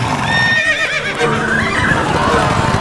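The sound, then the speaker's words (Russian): A horse whinnies with a shrill, wavering cry that rises and trembles, ringing out loudly over a steady background with muffled hoof clatter and a voice speaking underneath, at a crowded horse race where riders in metal helmets ride unsaddled horses. “Над головами человеческого муравейника вдруг появляются они в куртках, носящих цвета контрад, и в металлических касках, сидя верхом на неоседланных лошадях и сжимая в руке жесткий бич Нербо.”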